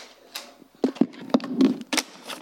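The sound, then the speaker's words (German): A novelty table-prayer toaster being operated as it produces toast: a string of sharp mechanical clicks and clatters over a steady low hum, irregularly spaced across a couple of seconds, with no talking. “was ihr bestimmt nicht kennt, ist ein Tischgebetstoaster.”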